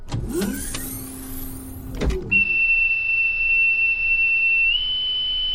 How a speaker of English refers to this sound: Decontamination is complete. Bulkhead door opening.